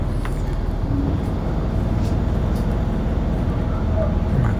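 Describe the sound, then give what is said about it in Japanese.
A bus stopped at a traffic signal rumbles steadily at idle, a deep continuous drone, then the sound swells slightly as the bus begins pulling away. “信号でバスが止まってます。動き出しました。”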